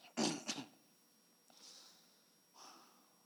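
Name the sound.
sneeze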